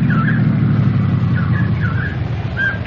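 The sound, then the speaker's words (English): An approaching state police car's engine rumbles low and steady throughout, holding an even loudness, with a few brief higher chirping tones rising over the drone. No one speaks. “Oh, hey, I hear a car coming.”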